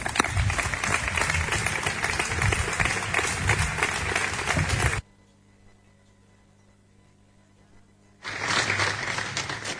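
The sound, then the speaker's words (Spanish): A large audience at an evening pregón event applauds loudly to welcome the presenter: a dense wash of clapping that stops abruptly, leaving a few seconds of near silence before the applause bursts back in just as strongly. “Yo quisiera invitar al presentador del pregonero que tenemos esta noche, Francisco Lama, de Góngora, que nos gustaría pues que fuera recibido con un fuerte aplauso en esta tarde memorable.”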